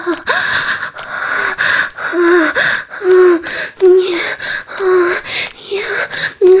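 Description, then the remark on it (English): A voice lets out a rapid series of sharp, breathy gasps and drawn-out moans of sexual pleasure, repeating in uneven bursts with a rising and falling pitch, loud throughout. “You gasp and tilt back your head as your entire body shakes with pleasure.”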